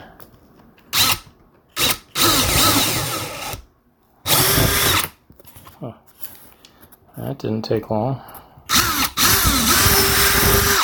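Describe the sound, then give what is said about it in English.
A power drill whines in several loud bursts of varying length as it bores a 5/16-inch hole through a door along a tape template, with pauses between, and a man briefly speaks near the end. “Well, it says half inch, but 5/16, that's good. As long as I don't go over the edge of the template, I should be fine.”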